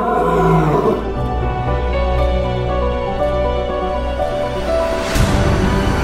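Lions roar and growl loudly, a deep rumbling layered with harsh guttural snarls that swell and overlap continuously, with a sharper burst near the end.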